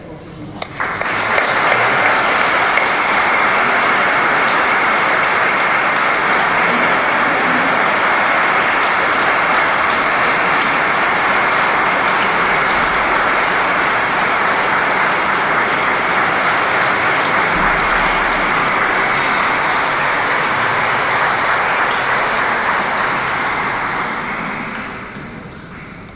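Sustained audience applause at a church ceremony in Sitges installing a new parish rector, a dense steady wash of many hands clapping, holding evenly loud for about twenty-five seconds before tapering off at the end.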